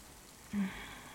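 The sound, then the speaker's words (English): Soft, steady rain falls outside, hissing quietly in the background, a continuous gentle patter with a brief slightly louder swell partway through and no voices. “It's raining out.”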